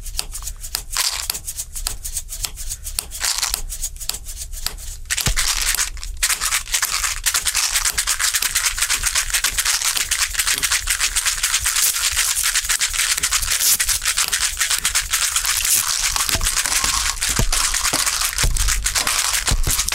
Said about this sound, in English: First of all, we'll start quietly with the Etch-A-Sketch. Okay, so... Nice. Yeah. Okay, do you want to join me with the Tic Tacs?